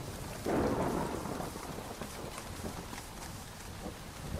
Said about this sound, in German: Regenwetter, das stört nicht nur beim Wolkenbegucken, sondern auch bei der Gartenarbeit.